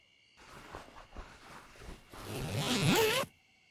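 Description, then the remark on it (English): The zipper of a one-person sleeping bag in a tent is pulled along in a few short tugs, then dragged closed in one long, loud rasping stroke that ends abruptly, with no one speaking. “Do you really have to zip yourself up with me? You know this is a one-person sleeping bag, right?”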